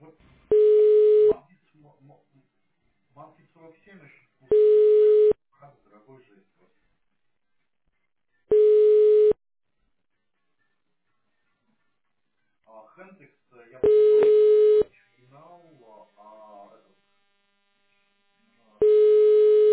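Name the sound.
telephone ringback tone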